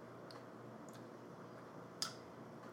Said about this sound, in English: Let's sip this bad boy. Cheers, sir. These glass need to make a better clink noise, by the way.